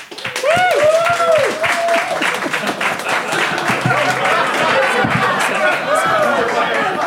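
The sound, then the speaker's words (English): A live audience in Phoenix applauds to vote, with dense, steady clapping lasting about seven seconds, mixed with rising whoops and cheers near the start and a murmur of chattering voices throughout. “So instead, I'm calling upon our live Phoenix audience to make the call.”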